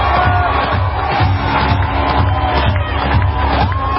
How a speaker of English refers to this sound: Cue up the massive energy, the massive crowd. They go crazy for the Trump dance.